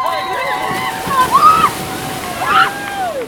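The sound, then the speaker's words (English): Water sloshes and splashes steadily as over 50 swimmers charge into the icy water of Copaig's Upper Rota Pond for a charity plunge, with temperatures in the mid-30s, excited shouts and whoops rising over the churning noise. “Sponsored by donors, the swimmers charged into the water despite temperatures being in the mid-30s.”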